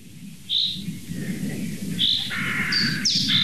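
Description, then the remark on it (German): Crows calling in a forest, a few short harsh calls overlapping near the end, over a steady low rumble of wind or other noise. “Bis die Krähen kamen.”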